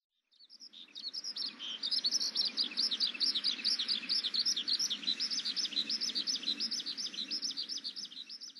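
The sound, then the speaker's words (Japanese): A brown-eared bulbul calling in a rapid, continuous run of loud, shrill chirps, steady for several seconds, with no voices present. “ヒヨドリです。”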